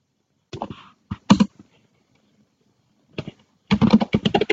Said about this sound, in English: Typing in the password again.